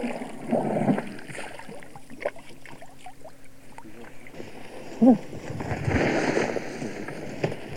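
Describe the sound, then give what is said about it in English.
Splintering crashes of a small tree being smashed out of the way by an elephant outdoors, a few rough bursts of cracking and snapping branches, with one sharper loud snap midway, over steady rushing background noise. “The elephant has just smashed a small tree out of the way.”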